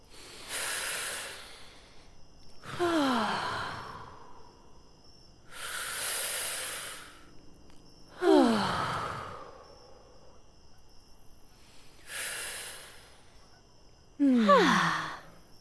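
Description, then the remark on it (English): Three slow, deep breath cycles taken together at bedtime after brushing teeth, filling the lungs: a long airy inhale followed by a loud, breathy exhale with a falling, sigh-like voiced tone. Steady rhythm, no talking. “Now that we've brushed our teeth, let's take a few big breaths all together. Let's fill up our lungs like a big balloon.”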